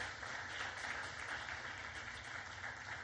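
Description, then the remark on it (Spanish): A church audience applauds together as an offering of clapping to God, in a steady, dense wash of hand clapping that fills the whole stretch at an even level, with no voices standing out. “Dale una ofrenda de palmas al Dios de la gloria.”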